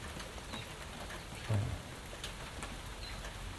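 rain falling

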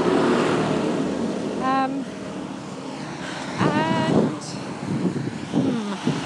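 tractor passing by

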